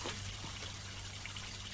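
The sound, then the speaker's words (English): Water from a burst leak in a house trickles and dribbles steadily for a couple of seconds. The soft continuous splashing is heard alone over a faint low hum and is fairly quiet. “Have you any idea where the stopcock is? I think it's in the utility room. Well, you turn off the water.”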